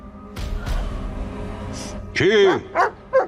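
After a low rumbling stretch, a dog lets out one drawn-out bark that bends up and down in pitch, followed by two shorter, sharper barks.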